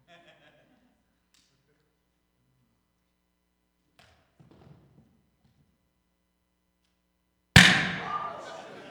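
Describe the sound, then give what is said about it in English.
After several seconds of faint fumbling and near-silence, a small explosion set off with a lighter bursts inside a lidded bucket during a cookie-making demonstration, with a single sharp, loud boom that rings and decays over the last second. “So we're going to create a little explosion here.”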